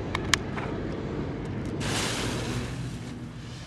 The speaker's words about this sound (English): I'm the regional manager for Phantom Fireworks in Southern California. And I'm in the backyard of our main warehouse in Santa Fe Springs, and we're about to set off some really cool fireworks. This one is the New Yorker fountain.